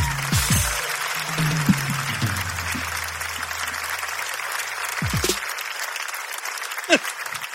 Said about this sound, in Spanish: Y nada, un fuerte aplauso para Yo Escojo Mis Hobbies, por favor.